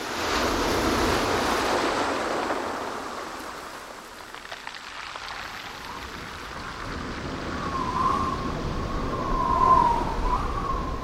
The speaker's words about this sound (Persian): دریا خوشحال شد، موج زد و خندید.